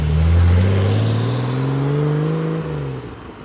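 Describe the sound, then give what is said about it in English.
A car engine roars as it accelerates hard up a hill from a sudden stop, around 3:40 a.m. The low revving tone climbs steadily in pitch before easing off near the end, with no voices present. “Then it took off very, very quickly.”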